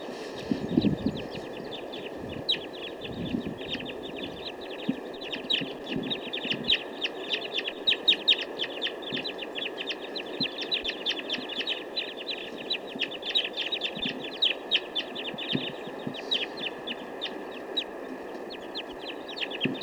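flock of birds calling

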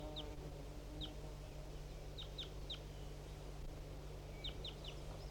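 bird calling

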